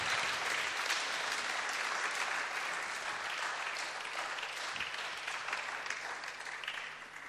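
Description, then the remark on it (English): A crowd applauds steadily to welcome a special guest preacher for the evening, dense clapping filling the space at a strong, even level before tapering slightly toward the end. “With a great applause,”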